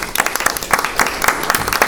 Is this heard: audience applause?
yes